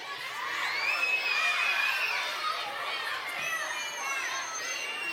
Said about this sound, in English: It was kind of hard for this side of the room to hear because you guys were cheering so loud. What I don't understand is why you guys have to cheer so loud.